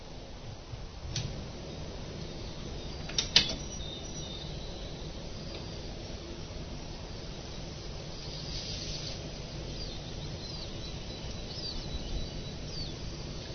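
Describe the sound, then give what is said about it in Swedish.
Faint birdsong outdoors: a few high chirps come and go over a steady background hiss, with a couple of sharp ticking clicks early on and no voices. “Alltså kul när man kan höra fåglarnas sång där.”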